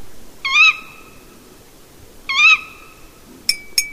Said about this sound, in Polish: Czy dziwią się państwo, że słysząc takie kwilenie swej damy, pan Puszczyk wolał do niej polecieć, aniżeli do trzech facetów ganiających po lesie z ptakiem puszczanym z telefonu?